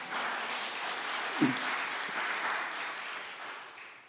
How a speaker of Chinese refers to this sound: 非常感谢我们教会的同工，一个小时以后就不见了，为他们拍手鼓掌一下。